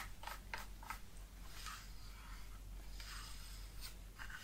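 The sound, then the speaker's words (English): Soft bristly brushing sweeps across a keyboard as it is dusted with a brush, a few quick strokes followed by longer scrubbing passes, fairly quiet over a low steady background hum. “starting by dusting the keyboard.”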